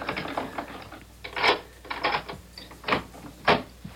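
A key rattles and a lock clicks and clunks through a run of sharp mechanical bursts, followed by a door being opened, with no one speaking.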